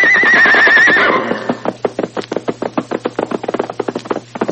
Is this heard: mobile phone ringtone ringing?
no